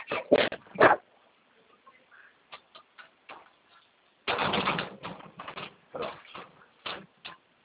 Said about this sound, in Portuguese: Vai deitar, cara. Você fica aí latindo aqui, parece que maluco.